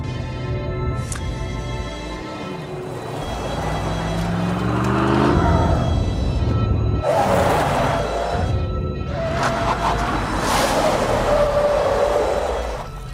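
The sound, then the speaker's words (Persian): A bulletproof armored vehicle with a remote-controlled gun, blocking the road, has a heavy engine that rumbles and revs with rising and falling pitch, then loud bursts of tire noise and a screeching skid as it brakes to a stop, continuous. “یکی مسیرمون رو سد کرده. کیه؟ نمیدونم. یه خودروی ضد گلوله است که یه اسلحه کنترل شونده داره.”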